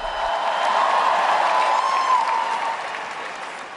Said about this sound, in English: And when his helpers had to bring out not one but three microphones because two failed to work, he looked a little out of sorts, but comforted by the cheers of encouragement that rose from the crowd.